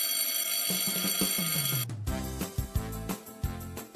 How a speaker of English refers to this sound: Well, kids, the dismissal bell is ringing.